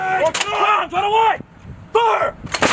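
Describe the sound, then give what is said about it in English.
Military drill gunfire and artillery from the US Army's 82nd Airborne Division conducting drills at Fort Bragg in the United States: sharp, loud blasts punctuate the scene at the start and end, mixed with strained, shouted voices in between. “The sounds of a military superiority that the United States wants to solidify in Eastern Europe.”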